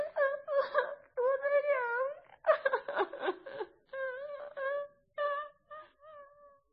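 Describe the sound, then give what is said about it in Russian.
A girl cries in wavering, high-pitched sobs and whimpers, a series of drawn-out wails broken by short breaths and sniffly pauses, with no talking. “Пока Клара демонстрировала силу заступа, а фройлен Анхен хлюпал своим очаровательным носиком”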